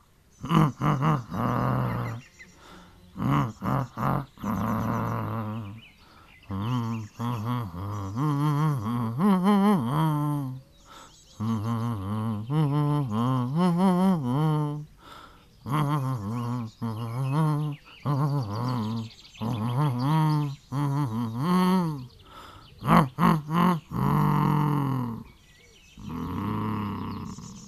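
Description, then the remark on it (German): A deep, growly bear-like voice hums and grumbles a wandering tune in phrases with short pauses, fairly loud, probably a person imitating a bear stomping through a garden bed while humming a piece of music. “Na hallo, ein Bär, der durchs Beet stapft und auch noch was brummt.”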